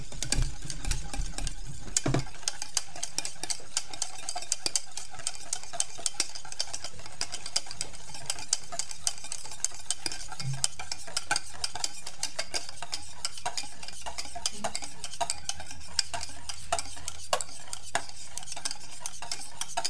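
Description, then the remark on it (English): A whisk beats sabayon for strawberries in a small metal saucepan in a steady, scratchy rhythm with light clinks, continuing for the whole stretch with no voices over it. “On va laisser ce bruit d'ustensile le matin.”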